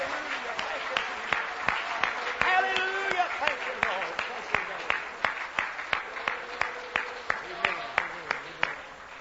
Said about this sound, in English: Why don't you clap your hands and praise the Lord one time? Oh, come on, don't patty cake. Clap your hands and praise the Lord.